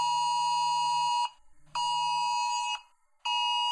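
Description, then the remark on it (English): A loud, harsh electronic alert tone blares in three long, steady bursts with short pauses between them, a buzzy high pitch like a phone's emergency weather warning, announcing a severe thunderstorm warning and then a tornado warning. No one speaks. “Oh, severe thunderstorm warning. Come on. Oh no, tornado warning.”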